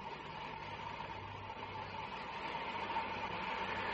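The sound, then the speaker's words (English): A steady, continuous rumble of a train running half a day late rolling along the rails, with a low hum beneath a broad wash of noise that holds even and fairly loud throughout, no voices present. “Rough, isn't it, catching a train that's half a day late when you've only got 2 weeks' leave?”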